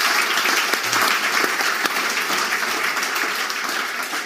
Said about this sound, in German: Und das finde ich auch, vielen Dank auch für den Applaus.